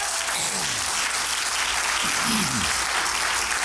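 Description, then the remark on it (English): A church crowd gives God a hand clap of praise before a Bible teaching: steady applause, a dense wash of many hands clapping at once with no pause, loud and even throughout, while a few voices call out faintly underneath. “Can we give God a hand clap of praise before I teach?”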